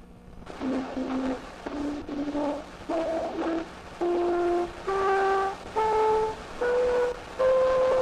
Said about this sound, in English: I want to leave you today with the earliest interpretable sound recording retrieved to date. It's a simple scale played by a cornet in 1857, 20 years, two decades, before Thomas Edison invented the phonograph.